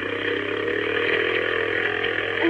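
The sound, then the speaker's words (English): A small motorboat engine drones steadily at speed, loud, its buzzing hum carrying over rushing water with no pauses, as the boat crosses a smooth inlet toward Lighthouse 12, making the spray fly. “You think we get us a man-sized boat instead of this?”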